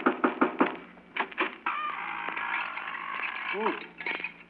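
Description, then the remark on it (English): A quick run of four or five sharp knocks on the Wicked Witch's door, then a couple more raps, followed by a long, sustained creaking tone that fills the rest of the moment. “Well, if we're going in to get the Wicked Witch, I better knock on the door.”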